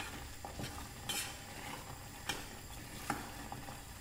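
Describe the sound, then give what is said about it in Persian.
A thick cooking mixture, stirred with a spoon until it has thickened and almost no water is left in it to bubble, sizzles and crackles steadily in a pan, with a few sharp scraping clicks from the spoon at irregular moments. No voices. “صداشو ببینید، این دیگه تقریبا نشون میده که آبی تو این نیست که قل بخوره.”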